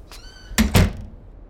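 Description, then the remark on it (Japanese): A door swings shut with two solid thumps in quick succession, preceded by a brief high squeak or meow-like tone, with no talking. “ごめん、ドアも閉めとくから。”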